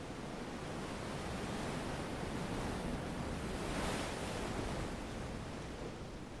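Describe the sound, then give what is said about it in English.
Steady roar of Pacific Ocean surf washing onto a sandy beach in San Francisco, a dense, hissing wash of breaking waves that swells slightly louder midway before easing back, with no voices present. “He dropped the belt he always carries, threw himself on the sand that was warm and fine, and listened to the sound of the surf.”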